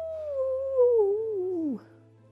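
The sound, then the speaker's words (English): A single long, wavering vocal howl from a person, sliding slowly downward in pitch before cutting off, an imitation of a wolf's howl with faint hum beneath. “Horned owls howl at the full moon.”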